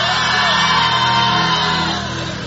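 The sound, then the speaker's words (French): A large crowd at a prayer meeting shouts "Jesus" together as loud as they can, a dense, sustained roar of many voices that holds steady for a couple of seconds before easing slightly at the end. “As loud as you can. Crie Jésus.”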